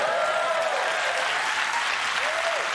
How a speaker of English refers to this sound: Just saw Wicked, total witch hunt. Let's move on to the fight. Yeah, you can clap for that, yes.